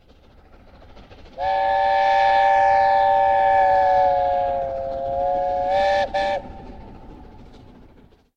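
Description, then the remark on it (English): The A4 Pacific steam locomotive Sir Nigel Gresley, about half a mile away, approaches Moorgates near Gothland on the North Yorks Moors Railway on a breezy day. It sounds a long, chime-like whistle for about five seconds, ending in two quick blasts, over the low rumble of the approaching train. “That's the A4 Pacific locomotive, Sir Nigel Gresley, in full cry, about half a mile away approaching Moorgates, near Gothland.”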